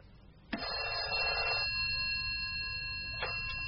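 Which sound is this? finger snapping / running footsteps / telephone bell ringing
telephone bell ringing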